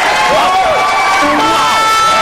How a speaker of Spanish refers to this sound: Ay, un aplauso, por favor, un aplauso.